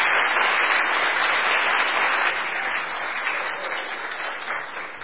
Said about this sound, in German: Applaus.